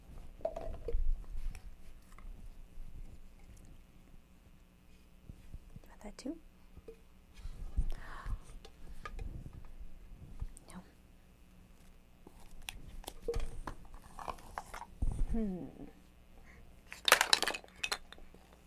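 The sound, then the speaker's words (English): Sporadic biting and crunchy chewing of pizza crust come in short bursts, with an occasional light clink of glass and soft, whispery voices murmuring in the background. “You can almost chew through the crust.”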